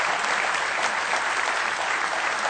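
An audience at a morning church service claps in praise of the Lord. The sustained, dense applause of many hands makes a steady, crackling wash of sound at an even loudness throughout, with no voices standing out.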